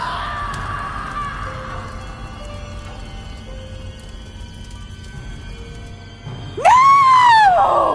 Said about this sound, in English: I could hear my mom scream, and I was blown away by the sight.